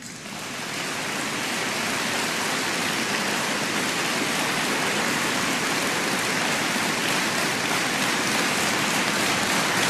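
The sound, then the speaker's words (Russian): A crowd applauds steadily for about ten seconds in response to a speech by Putin, the claps merging into a dense, even roar after a quick swell at the start, with no voices over it. “Это вам аплодисменты.”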